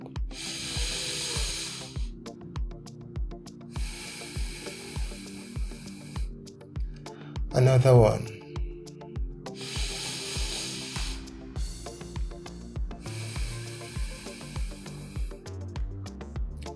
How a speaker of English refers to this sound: Welcome to our session on deep breathing and immunity. Take a deep breath.